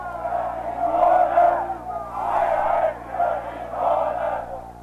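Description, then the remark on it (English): A crowd on the west side taunts East German soldiers as they build the wall, shouting and jeering in loud, overlapping waves that rise and fall about four times. Many voices blend into a rough, angry roar with no clear words. “Crowds gather on the west side to taunt the East German soldiers as they build the wall.”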